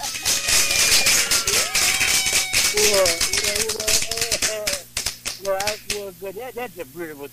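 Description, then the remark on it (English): A quick, loud run of sharp hand claps fills the first few seconds while a voice talks over them; the clapping then stops and speech carries on alone. “Let me give you the clap, man.”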